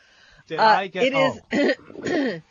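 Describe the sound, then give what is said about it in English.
A caller on a radio show coughs and clears their throat in four rough, voiced bursts over about two seconds, each loud and raspy with short gaps between them. “Did you get a diagnosis for your cough?”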